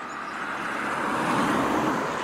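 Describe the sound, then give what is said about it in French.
A car passes on the D992 road at Faux-la-Montagne, on the Plateau de Millevaches, about an hour's drive from Limoges; its broad tire and engine rush swells steadily louder then holds, with no voices. “ici Faux-la-Montagne, sur le plateau de Mille Vaches. La D992.”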